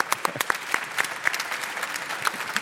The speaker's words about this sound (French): Merci, Jeff Vandermeer, d'avoir été l'invité de Mauvais Genre. On l'applaudit.